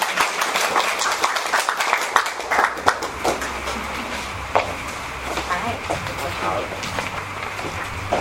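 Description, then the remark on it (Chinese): An audience claps steadily for several seconds as actors are called up to perform, a dense crackle of many hands with a few sharper claps standing out, and a murmur of voices mixed in underneath. “好，演员们请上来， 耶、yeah, ，拍拍手。”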